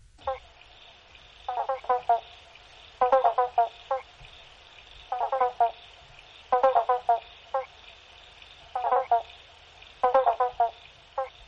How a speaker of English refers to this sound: The bullfrog is also called the banjo frog or pobblebonk, and its call is one of the sounds that can be heard in many parts of Tasmania in spring. Listen to this.